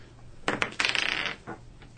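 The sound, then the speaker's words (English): Dice rolled during a tabletop game clatter across a hard tabletop: a couple of sharp initial clacks, then a quick run of rattling bounces that fade out, with one last soft tap shortly after. No one speaks. “Was that a good roll? No. That's why off the table I'm not taking it.”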